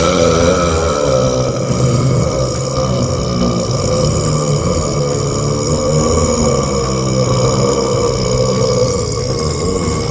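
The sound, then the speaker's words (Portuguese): A single very long, loud burp, a world-record 18.1-second burp by a 35-year-old American at a World Burping Federation competition in New York, drones on without a break for the whole stretch, a deep, rumbling, slightly rasping tone held steady from start to finish with no talking. “quebrou o recorde mundial com um arroto de 18,1 segundos de duração”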